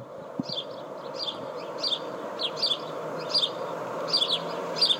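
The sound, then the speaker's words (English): Birds outside a window at about 6 a.m. chirp over and over in a quick, steady rhythm, each call a bright high double note, above a constant low rumble of a distant train. No one speaks. “I thought about putting a poisonous bird feeder on my windowsill.”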